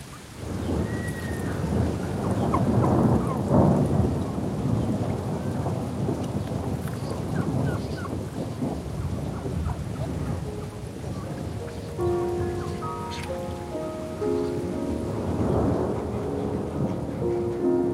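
Steady, heavy rain pattering on a roof, with deep rumbles of thunder rolling underneath and a few soft ringing tones near the end; no one speaks.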